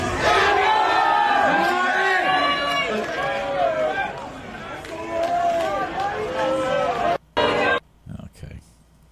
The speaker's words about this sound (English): yelling at players like this is absolute bullshit.